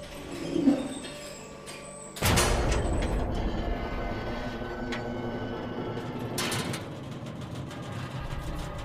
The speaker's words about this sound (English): The doors closed, and the elevator started down.